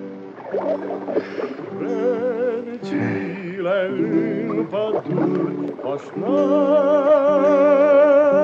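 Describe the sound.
A boatman in a rowing boat sings his new song, a slow, wavering tune with strong vibrato, his voice carrying steadily for the whole stretch, with a brief dip before the melody swells louder near the end.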